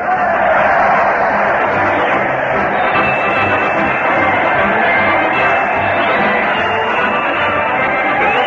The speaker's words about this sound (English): The crowd is cheering madly as Fred Allen leads his weekly parade to the old Town Hall.